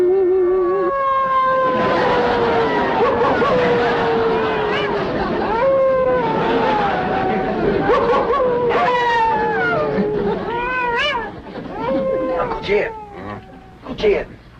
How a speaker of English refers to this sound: what's got them wolves so stirred up tonight? Oh, but something sure is setting them off.